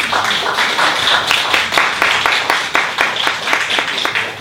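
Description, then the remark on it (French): Sustained audience applause for an artist who is present, a dense crackle of many hands clapping steadily with some louder individual claps standing out in a loose rhythm, no voices heard. “Elle est parmi nous, je vous demande de l'applaudir, s'il vous plaît.”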